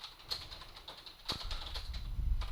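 Faint, irregular clicks of typing on a computer keyboard, a scattered run of soft keystrokes at a quiet level with no voices over them.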